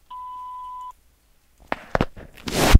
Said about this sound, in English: We're not able to answer the phone right now. Please leave a message at the tone. Thank you.